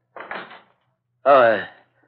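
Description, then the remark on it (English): A quick series of knocks on a door, three or so close together, followed after a short pause by a brief spoken call. “That sounded like somebody knocking on the door.”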